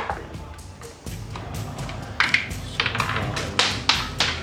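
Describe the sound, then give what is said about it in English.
Hard little clicks and clatters tumble across a tabletop, several dice rolling and scattering in quick irregular bursts, fairly loud over a low background murmur, as players in a tabletop role-playing game roll will saving throws. “Dice flying everywhere.”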